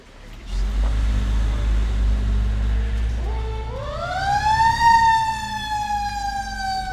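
A heavy engine rumbles steadily from inside a 40-foot fire truck of Contra Costa Fire Protection District Station 6, Concord, California, responding to a call, then a loud mechanical siren winds up midway, its rising wail climbing in pitch and holding high over the droning motor.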